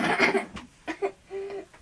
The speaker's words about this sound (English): Mummy, you just made me cough now. Sorry. I didn't mean to. I don't know why I made you cough.